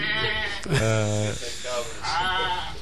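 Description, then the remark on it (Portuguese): A person in a studio imitates a goat's bleat, a wavering, nasal voiced cry repeated in a couple of bursts, with other voices murmuring in the background. “ou imita muito bem ou disfarça muito mal, não sei.”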